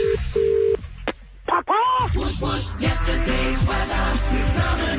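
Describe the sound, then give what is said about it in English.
A couple of short, steady telephone keypad beeps sound at the start as a phone call is dialed, followed by a click and then voices talking loudly over a busy background. “Oh, just 1 second, I just need to make a phone call.”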